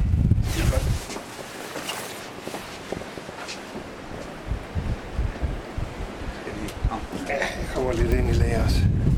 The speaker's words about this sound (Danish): nu står vi her i blæsevejret og kigger ud over vandet